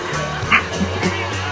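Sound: dog barking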